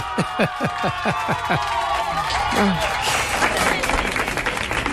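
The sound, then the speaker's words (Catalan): An audience in Barcelona applauds steadily for several seconds, a dense wash of many hands clapping at once, with a few short rising vocal whoops near the start and crowd murmur mixed in. “Un aplaudiment des de Barcelona, eh?”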